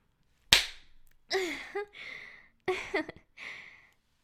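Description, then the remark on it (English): One sharp smack of a hand on bare buttocks rings out, followed by a series of breathy gasps and vocal moans. “Slap this ass.”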